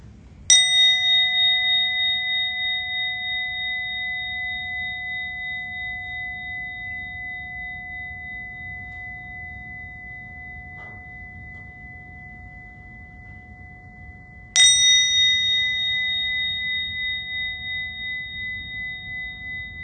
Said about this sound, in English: So getting into our meditative posture so that we're alert and relaxed, and just listening, letting the sound of the bell bring us into the present moment.